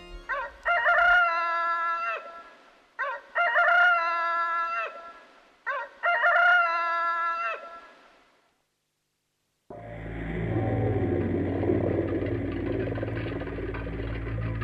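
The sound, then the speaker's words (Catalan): A rooster crows three times in a row, loud, each call long and drawn out. After a short silence a steady low rumbling noise, like a running engine, takes over. “De nit, dalt del cimbori, hem sentit cantar el gall.”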